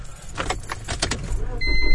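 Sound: getting into a car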